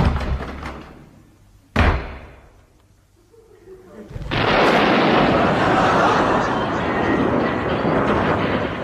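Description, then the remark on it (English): In the Goon Show, a door bangs shut with one sharp, heavy thud as someone enters, then a brief quiet lull before a loud, continuous wash of noise swells up and holds to the end. “Enters own door.”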